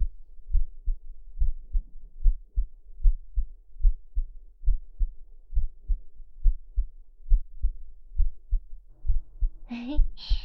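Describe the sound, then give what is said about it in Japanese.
A girl's slow, steady heartbeat, heard with an ear pressed to her chest, thumps up close and muffled, each beat a soft low double pulse repeating evenly; near the end a voice briefly murmurs over it. “ねえ、私の心臓の音、聞こえる？”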